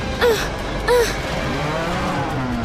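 cow mooing

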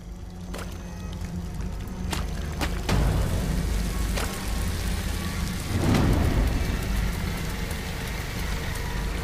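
heavy rain with thunder

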